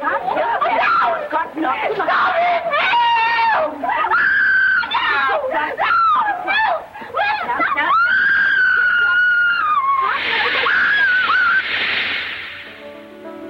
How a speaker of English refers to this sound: Mrs. Pierce scrubs Eliza's back. In the hall below, the men hear Eliza's screams.